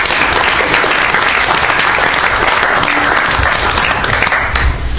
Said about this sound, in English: Why don't we give a round of applause for this great news?